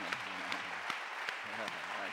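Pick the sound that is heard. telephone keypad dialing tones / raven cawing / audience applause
audience applause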